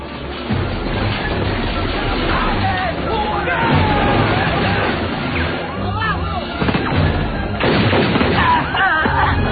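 Repeated bursts of gunfire and heavy booms from a film's opening sequence churn through a dense, muffled battle din, with shouting crowd noise underneath; the racket stays loud and continuous throughout.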